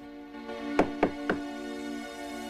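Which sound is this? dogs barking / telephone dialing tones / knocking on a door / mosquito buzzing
knocking on a door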